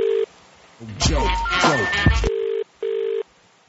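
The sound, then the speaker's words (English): A phone line rings out on an outgoing call: short steady ringback tones, one at the start and another near the end, with a voice speaking loudly in between. “Now it's ringing.”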